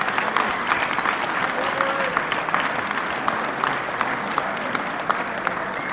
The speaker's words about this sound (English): This is a couple hundred people. Everyone's a part of it, and I'd like you to give yourselves a round of applause for making it happen. This is awesome, man.